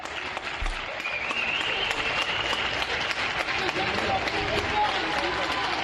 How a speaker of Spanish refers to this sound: Cuando recuerdas esos aplausos a los sanitarios que se hacían cada día a las 8 de la tarde durante la pandemia, ¿qué es lo primero que te viene a la cabeza, Alfredo?